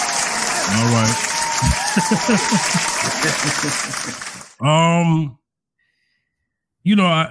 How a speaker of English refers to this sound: Because when we start the show, we always got to do our signature. Followed by the applause.